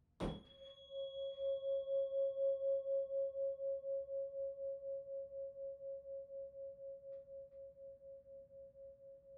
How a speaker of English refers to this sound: I'm going to strike two tuning forks. I put the two in tuning. Ha. There's puns for you. And it's going to give you an example of resonance and how vibration can be larger and stronger and more powerful when it creates unison with something external.